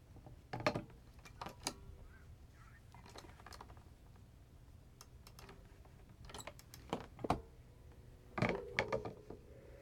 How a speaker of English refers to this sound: Sound like somebody dropped the phone.